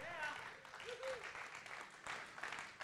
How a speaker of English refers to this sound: Hey, whoa. Give the creative team a huge round of applause.